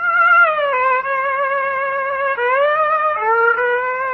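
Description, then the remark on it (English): A bowed string instrument with catgut strings scrapes out long, shrill, wavering notes, sliding between pitches in a harsh, screechy way, loud with no talking, played to lull a man to sleep. “With that infernal cat-gut din going on?”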